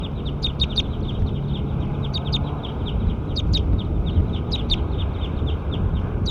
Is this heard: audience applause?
no